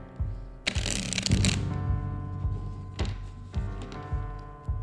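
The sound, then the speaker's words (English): A deck of cards being shuffled, with a dense riffling burst followed by a couple of shorter crisp flutters, all over a steady low hum with no one speaking. “And she shuffles.”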